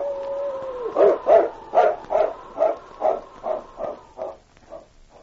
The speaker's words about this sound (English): A different howl, which he recognized as a distress call of the dog he looked upon as a mate